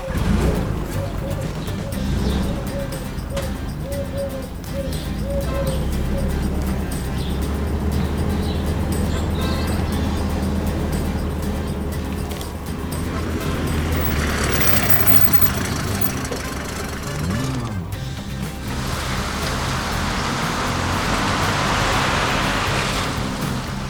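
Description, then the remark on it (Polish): A forklift's engine hums and rumbles steadily as it drives about delivering pallets of paving stones, with a run of short repeated tones early on and a brief rising whine partway through. “A ty, wózku, proszę rozwieź palety z kostką tam i tam.”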